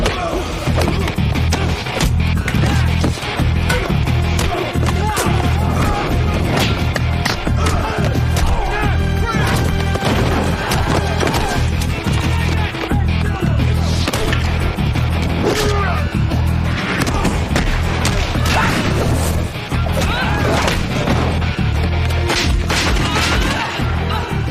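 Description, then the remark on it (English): A chaotic fight through a police station, with repeated heavy thuds and crashes as officers are slammed into walls, over a loud, dense bed of music and shouting that runs throughout. “They slam the officers into walls.”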